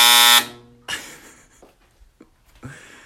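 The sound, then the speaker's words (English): A clothes dryer's buzzer, used after midnight, lets out one loud, harsh, steady electronic buzz lasting under half a second, followed by a few quieter rustling and clunking sounds. “You used the dryer after midnight, it sounded something like this.”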